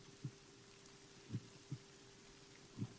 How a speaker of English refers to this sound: My heartbeat is taking you down and down and further down. Feel my heartbeat.